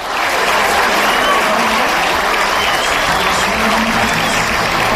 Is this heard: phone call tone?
no